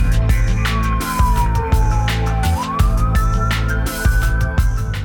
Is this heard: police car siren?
yes